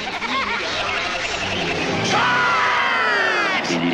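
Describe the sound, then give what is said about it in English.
A crowd yelling, a dense wall of many overlapping shouting voices that stays loud and continuous throughout, with a few rising whoops and cries standing out toward the end. “Well, it sounds like a crowd.”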